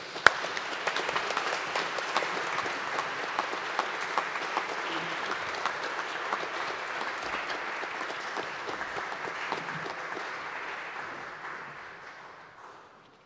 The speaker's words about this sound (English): And welcome to, very warmly, to your wives. And we'll signify that with applause.